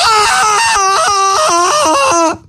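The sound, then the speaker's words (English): A loud Tarzan yell, one long yodeling voice whose pitch jumps rapidly up and down between high and low notes for about two seconds before cutting off. “When Cheetah died, Tarzan started to yell, "New underwear!"”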